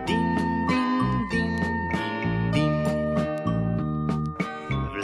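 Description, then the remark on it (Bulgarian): Small bells jingle and tinkle in a bright, steady musical pattern, with sustained ringing tones and quick repeated strikes running throughout at a moderate, even loudness, with no voices. “Аз момченце съм звънченце, дин-дин-дин-дин-дин.”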